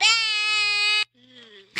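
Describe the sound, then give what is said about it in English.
A person imitates a sheep, holding one loud, steady, buzzy "baa" for about a second, then a softer, wavering second bleat that ends in a short breathy burst. “What sound does a sheep make?”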